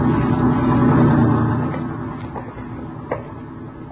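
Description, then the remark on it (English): A truck rumbles past on a movie studio lot by the sound stages, with a deep, steady engine drone that is loudest for the first second and a half, then fades to a softer hum with a couple of faint clicks. “Watch the truck”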